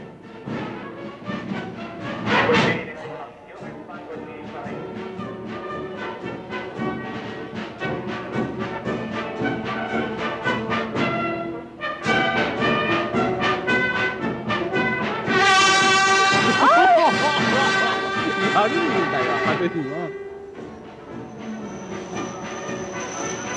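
A Tokaido Shinkansen train, recorded in October 1964 when the line opened, rumbles along the rails with rhythmic clattering, then its loud, wavering two-tone warning horn blares out over the running noise near the end, followed by a thin, high whine.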